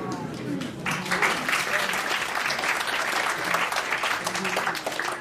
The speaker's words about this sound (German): Ich weiß nicht, warum ihr klatscht, aber you can get the girl out of the gas lobby, but you can't get the gas lobby out of the girl.